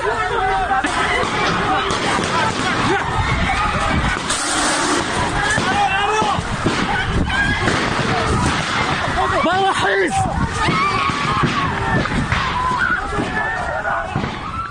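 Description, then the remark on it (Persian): A dense, chaotic crowd hubbub of many overlapping voices, shouting and clamoring continuously, loud throughout, with scattered harsh bursts and clatter beneath the din, as special unit security forces raid a student gathering inside Kurdistan University of Medical Sciences on 7 Aban, reportedly firing tear gas and shooting. “حمله نیروهای یگان ویژه به داخل دانشگاه علوم پزشکی کردستان 7 آبان ماه.”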